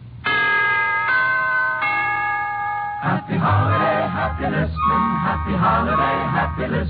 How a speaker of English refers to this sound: To put it in musical form, here is a holiday wish from the NBC Chimes.